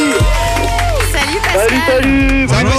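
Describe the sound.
A lively crowd claps and cheers steadily for a few seconds, the applause loud, with excited voices calling out over it, welcoming a contestant on a morning radio game show.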